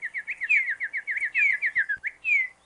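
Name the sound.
bird chirping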